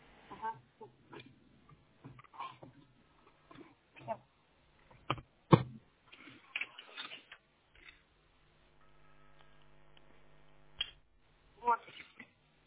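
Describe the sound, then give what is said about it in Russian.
A series of small clicks and taps from a cable being plugged back in and pressed firmly into its connector, with one sharp, loud click as the plug seats, over a low hum and faint murmuring voices. “Он у меня, ну как вот, включился, а еще щелчок.”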